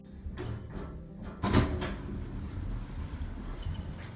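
Elevator doors slide open with a few soft mechanical clicks and a louder rolling clunk, over a steady low hum; no one speaks.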